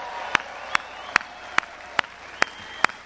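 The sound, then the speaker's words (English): An audience applauds to thank veterans, who raise their hands: a steady wash of clapping with seven sharp, evenly spaced claps standing out in a regular beat, roughly two or three per second, at moderate loudness. “All of you that are veterans, raise your hands so we can give you a round of applause and say thank you for what you've done.”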